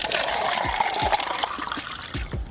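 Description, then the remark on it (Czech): Tap water runs steadily from a faucet into a glass in Zrenjanin, Serbia, where the tap water is banned for drinking; a continuous splashing stream with small gurgles and bubbly bursts throughout, no talking. “Uzimam čašu, puštam česmu i sipam vodu.”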